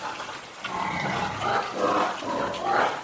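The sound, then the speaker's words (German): A few dozen hungry pink domestic pigs in large pens squeal loudly and almost without pause, several overlapping shrill cries rising and falling over a rough background of grunting and shuffling. No one speaks. “Und hungrige Schweine quieken nun mal wie am Spieß”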